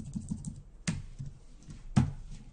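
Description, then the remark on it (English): Computer keyboard typing while writing code, including pressing Control+Period: soft, quick keystrokes tapping in an uneven rhythm, with two sharper, louder key presses standing out. No voices are heard. “And let me go ahead and hit control period on my keyboard.”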